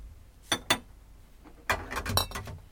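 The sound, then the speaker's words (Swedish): Small ceramic coffee cups clink together: two bright taps, a pause, then a rapid flurry of several overlapping chinks and rattles, fairly loud, with no talking. “Kan du inte klinga lite så man hör att det är”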